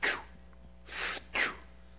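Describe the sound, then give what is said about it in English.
A voice imitates a hospital breathing machine helping a patient breathe, with three breathy, hissing whooshes: a short one first, then two longer puffs in quick succession. No words are spoken. “And I realized that they had put a breathing machine on him.”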